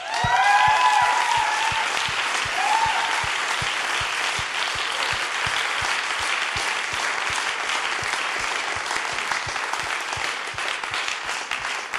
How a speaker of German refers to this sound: Hey, lass uns Jesus mal einen Applaus dafür geben.